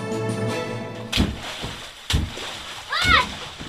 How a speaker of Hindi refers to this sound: पानी में छप छप चिलचिलाती गर्मी में इससे ज्यादा मस्ती और भला कैसे हो सकती है। कूड़ेदान के बड़े से डिब्बे में भरा है ये पानी और इसमें छप छप करने वाले ये बच्चे बेशक अभी दिल्ली के कालिंदी कुंज इलाके में एक झुग्गी बस्ती में रहते हैं